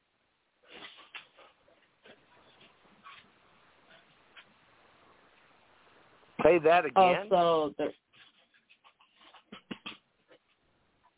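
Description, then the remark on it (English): Puppies playing rowdily: a loud burst of high, whiny yelps and barks for about a second and a half, surrounded by scattered faint yips and clatter, with people talking. “I hear the dogs playing, getting a little rowdy.”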